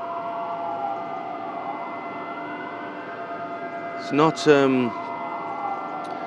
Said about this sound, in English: Even the hotel is emanating some kind of weird alarm.